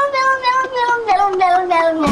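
A cat meows on a novelty record in a long, continuous, wavering wail whose pitch slowly slides downward, ending in a brighter, harsher burst. The sound is fairly loud, and no one talks over it.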